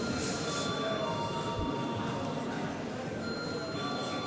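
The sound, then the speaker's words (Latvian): A voting bell in the Saeima, the Latvian parliament, rings continuously for several seconds, a steady, unbroken metallic buzz that holds an even loudness throughout, with faint murmuring voices beneath it. It calls members to vote on changes to the agenda. “Lūdzu zvanu.”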